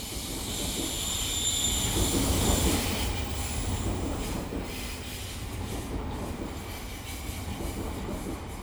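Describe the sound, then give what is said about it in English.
Trains bound for Central Station roll past on the rails with a steady, heavy rumble that swells and eases slightly, accompanied by thin high-pitched wheel squeal. No one speaks. “As the trains to Central Station are passing by, he talks about his life's journey that brought him to Amsterdam.”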